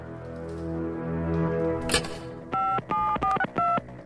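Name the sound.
telephone keypad dialing tones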